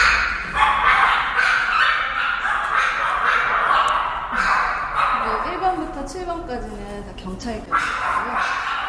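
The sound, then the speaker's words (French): A chorus of seven cloned puppies, police dogs that are all clones of the same dog, at Suam Biotech in Seoul, barks and yips continuously, several small voices overlapping, with high-pitched whining cries rising and falling toward the end. “Les chiots de 1 à 7 sont des chiens policiers. Ce sont tous des clones du même chien.”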